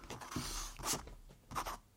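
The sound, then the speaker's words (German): A pencil scratches across paper in three short, raspy strokes as someone draws at 2 a.m., each a quiet burst of dry scraping with soft rustling between them and no voices. “Ich zeichne jede Nacht.”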